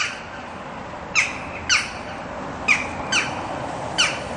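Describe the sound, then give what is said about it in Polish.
Shrill screeches from birds nesting in the trees of a town square ring out in five short, harsh bursts at irregular intervals, piercing and bright over a steady background rumble, with no voices. “Poszedłem tam i po to, żeby przekonać się o tym pandemonium na własne oczy i usłyszeć ten nadmierny i przenikliwy wrzask.”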